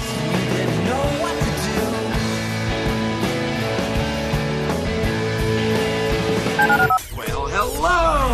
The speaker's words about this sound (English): Dial the phone.